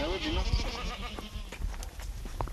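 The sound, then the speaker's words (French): Goats and ewes from a cheese-making farm's flock bleat in a meadow at Montpezat d'Agenais, a wavering, nasal call opening the moment and shorter bleats following amid rustling, steady background noise and faint voices. “élève des chèvres et des brebis et fait du fromage.”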